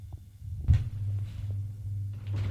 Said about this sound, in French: La porte d'à côté vient de s'ouvrir.